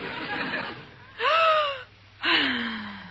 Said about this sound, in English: What is that? Her breathing exercises, Maestro. In yogi, they say if you breathe deeply, all the poisons leave your system and you can think clearly.